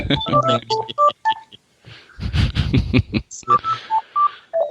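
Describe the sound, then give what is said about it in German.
A phone rings with a series of short, bright electronic beeps in a quick melodic pattern, broken in the middle by a rougher burst of noise before the beeping resumes. An incoming phone call. “Ich krieg gerade ein Telefon an.”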